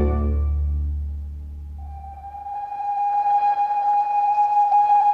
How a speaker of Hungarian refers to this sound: Nem akar felszállni, professzor úr? Mindjárt indul a kisvasút.